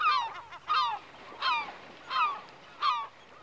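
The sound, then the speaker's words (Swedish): A black woodpecker calls in a forest at the Kilsbergen fault, five loud, ringing cries repeated at a steady, even pace, over a faint low background hum. “Men kanske hörs istället den stora hackspetten spillkråkan i skogen.”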